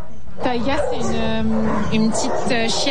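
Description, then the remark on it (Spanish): Several dogs at a French animal protection society shelter north of Paris bark and whimper, short sharp yelps mixed with a drawn-out, high whine that carries on almost without pause. “Al norte de París se encuentra uno de los 60 refugios de la Sociedad Protectora de Animales Francesa, la SPA.”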